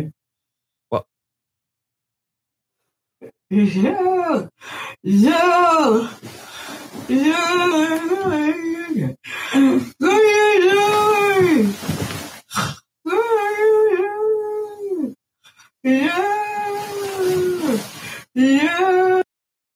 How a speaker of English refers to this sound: No, she's not being attacked. She's just singing in her sleep. And yes, it wakes everybody in the room up.